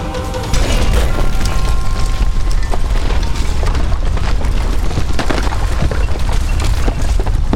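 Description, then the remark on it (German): A loud bomb blast, from a bomb thrown at someone's feet by several ninjas, with a deep booming rumble that sustains for several seconds, full of crackling and splintering debris, with no one talking. “Und du explodierst.”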